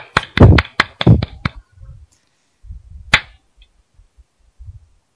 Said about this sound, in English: This is the Radio X Show. Come on, clap with me.